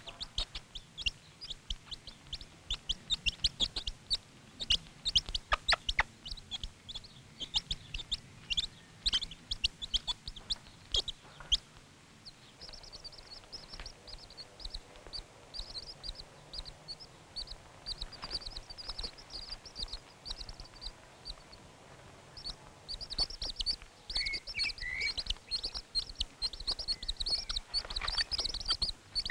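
A hen, with a few seeds thrown in front of her, gives quick, repeated low clucks in bursts, the food call, while chicks hidden under her feathers answer with a steady stream of high, thin peeping that grows busier toward the end. No one speaks.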